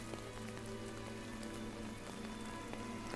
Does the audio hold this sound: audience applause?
no